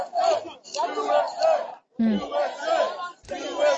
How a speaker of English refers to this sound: They've got an area lane for the police, and now everyone's chanting USA. Wow.